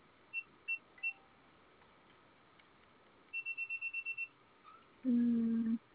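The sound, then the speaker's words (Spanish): Three short, high-pitched beeps from pressing the pound key three times on a security alarm system keypad, followed by a quick string of about eight similar beeps and then a louder, low buzzing tone lasting under a second. “Presione nuevamente tres veces la tecla de gato y me indica que le aparece.”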